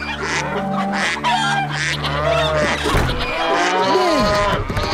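A cow moos in a long, low, drawn-out call lasting about three seconds, while geese or other fowl honk and squawk busily around it, fairly loud.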